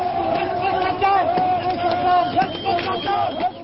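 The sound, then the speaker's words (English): A large crowd of hundreds of Baghdad residents roars and shouts continuously at the felled statue of Saddam Hussein in central Baghdad, Iraq, many voices blending into a loud, excited din with sustained cries rising above the babble throughout. “Hundreds of cheering Baghdad residents pelted, swatted, and swung just about anything they could find at the felled statue and dragged its severed head through the streets.”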